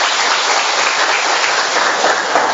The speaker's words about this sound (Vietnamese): Trong niềm hân hoan, chúng tôi chúc mừng những người, những tổ chức nhận thánh Martin làm bổn mạng. Một tràng pháo tay thật lớn, thưa anh chị em và thưa các bạn.